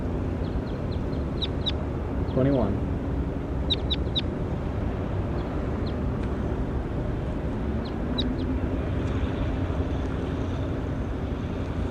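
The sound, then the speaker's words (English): A bird recorded in the field, one of a numbered series of birds, gives short, high chirps in scattered pairs and clusters, with one lower rising call early on, all over a steady low rumbling background noise. No one speaks. “Stop. We're recording bird 20 again.”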